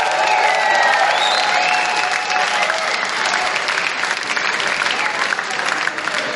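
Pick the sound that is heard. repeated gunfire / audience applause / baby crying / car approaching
audience applause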